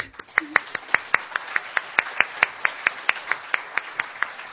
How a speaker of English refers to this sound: So in absentia, Lynn, we salute you, applaud you, and thank you.